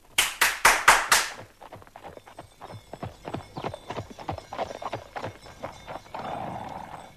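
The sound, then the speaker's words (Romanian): Horse hooves clip-clop, pulling a new carriage made entirely of gold, opening with several loud, sharp strikes, then settling into a steady, lighter trotting rhythm that continues before giving way to a soft rumbling noise. “Atunci iată, primește această trăsurică nouă cu totul și cu totul din aur.”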